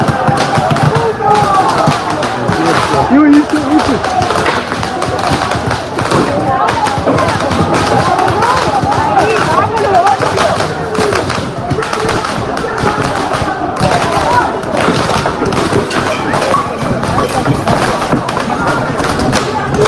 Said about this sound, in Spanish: Y junto a este sonido, una imagen que parecía como fuegos artificiales, pero lanzado en paralelo unos contra otros. Es que es tremendo. Era como una metralleta de bengalas.